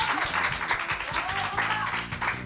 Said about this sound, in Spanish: Un fuerte aplauso, por favor.